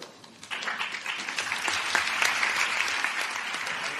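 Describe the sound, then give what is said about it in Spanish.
A crowd at a ceremony where the rector hands out diplomas for extraordinary doctorate awards breaks into sustained applause after a brief quiet start, a dense, steady wash of many hands clapping at an even loudness with no voices standing out. “El aplauso, el diploma que les entrega el rector, y es que son hasta 26 premios extraordinarios de doctorado los que reciben.”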